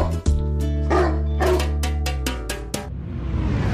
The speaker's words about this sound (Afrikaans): Die Trompie Jassie. Vir die hond wie se blaf net so groot is as sy byt.